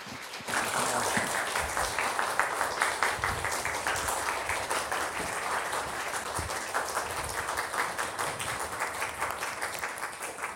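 A room full of people breaks into sustained applause, many hands clapping steadily and fairly loudly for about ten seconds without pause or talk.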